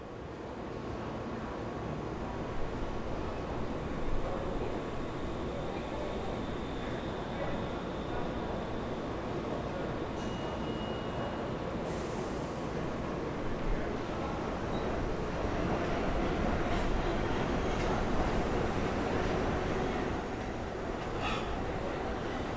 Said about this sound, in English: And waiting here for the subway is not helping it any better.